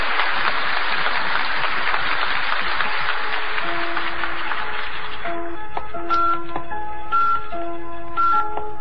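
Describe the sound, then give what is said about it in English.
A burst of applause-like noise gives way to a steady electronic time signal from the Elgin observatory at Elgin, Illinois, produced by an electrical impulse: short, mid-pitched beeps repeating about once a second over a sustained tone. “The electrical impulse that produced that steady beep, beep, beep had its origin in the observatory of the Elgin at Elgin, Illinois.”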